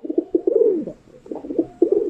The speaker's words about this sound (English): So they're pretty chill. They're not violent. You won't get mauled by a pigeon unless you're a seed. They sound kind of nice and quiet.